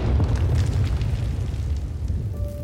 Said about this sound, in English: Then another bomb lands.